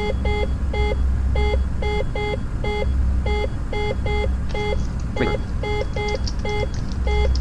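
A loud electronic alarm beeps in quick repeated pairs of short tones, a steady insistent pattern running the whole time over a low, constant background hum.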